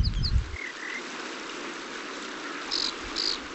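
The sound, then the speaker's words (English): An unseen American dipper gives a few short, harsh, high-pitched whistling calls as it moves upstream, scattered and fairly faint, over the steady rush of South Boulder Creek, newly free of ice. “Oh, there's a dipper calling in the creek. We can't see it, but we can hear its harsh whistling call as it wends its way upstream.”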